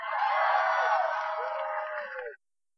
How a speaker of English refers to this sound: What in the fuck are any of these people cheering for?